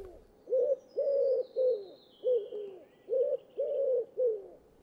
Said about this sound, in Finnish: Raamatussa ja myös virressä kuvataan kyyhkysen laulua kaunilla tavalla. Kyllä se laulu on kuitenkin aika yksitoikkoista